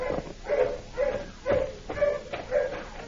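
Dogs bark in a quick, steady series of about half a dozen yelps, spaced roughly half a second apart, the dogs getting closer, with no one speaking.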